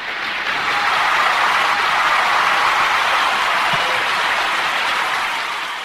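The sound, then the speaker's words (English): A show audience claps steadily for the program's stars in a dense, even wash of applause that swells in, holds for several seconds, then tapers off slightly at the end, with no voices over it. “Let's hear a big round of applause for these stars.”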